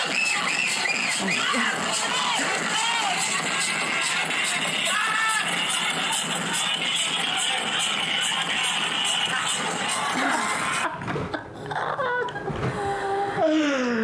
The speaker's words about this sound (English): That's what I want. Screaming. I want screaming. I want whistle blowing. I want clapping. I want all of that.